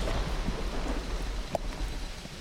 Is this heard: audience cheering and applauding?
no